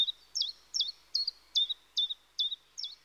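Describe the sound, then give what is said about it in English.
A small migratory bird resting in Caballeros Park during migration repeats a bright, high chirping call about seven times in a steady rhythm, each note quickly rising and falling, heard clearly with no talking. “They are birds that usually don't live in this park, which are now in the migration phase.”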